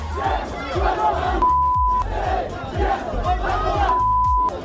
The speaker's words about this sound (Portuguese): Na apresentação, a torcida rubro-negra já aproveitou para mandar aquele recado carinhoso pro Gerson.